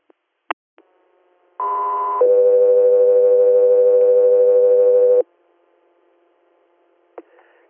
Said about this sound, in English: Scott 3 Air, stand by for tones.